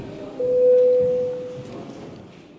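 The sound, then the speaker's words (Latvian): The voting bell in the Latvian parliament, the Saeima, sounds before a vote on declaring an emergency situation: one steady, mid-pitched electronic tone held for about a second, fairly loud, then fades into a low background hum with no talking. “Ziņotājs neko nevēlas piebilst, lūdzu zvanu.”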